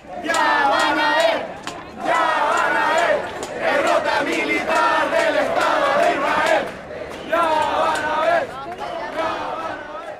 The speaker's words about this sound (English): A crowd of people marched through Santiago on Thursday in solidarity with Palestinians in Gaza. Hundreds of protesters threw shoes in the street in a symbolic protest of Israel's military offensive.